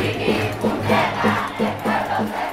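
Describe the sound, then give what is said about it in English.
A large protest crowd outside the governor's mansion chants in unison, shouting that the people are to be respected, voices rising and falling in a steady repeated rhythm, loud and dense with no single speaker standing out. “Ricky, the people are to be respected, the crowd shouted.”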